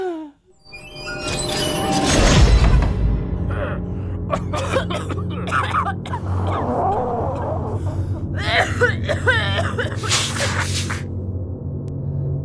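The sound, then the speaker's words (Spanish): Hospital waiting room ambience: a steady low hum and murmur of voices, broken by scattered coughs, gasps and sharp breathy bursts that come at irregular intervals. “Nos vamos a la sala de espera de un hospital.”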